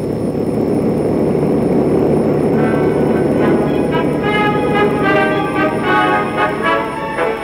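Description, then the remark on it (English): A loud, steady airplane engine drone in flight fills the whole stretch, with a layered humming whine rising out of the roar about halfway through. No one speaks. “Waiting for the Chicago plane?”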